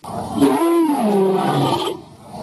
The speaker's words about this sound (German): Dazu ist es ganz hilfreich, wenn man sich tatsächlich mal heutige Großkatzen anhört oder zumindest heutige Katzen anhört. In der Tat klingen Löwen so, also ähnlich.